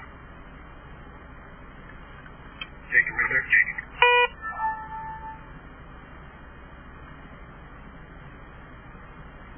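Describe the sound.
Steady road rumble of moving traffic fills the background, broken midway by a brief burst of horn-like tones, with a man speaking a few words over it.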